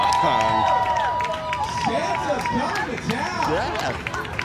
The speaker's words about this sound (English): All right. Yeah. Let's cheer him on in, guys.